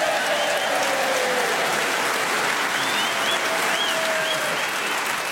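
An audience in the town of Bridlington on a summer evening breaks into steady, loud applause, a dense wash of clapping that holds evenly for several seconds, with faint whistles and cheers rising above it.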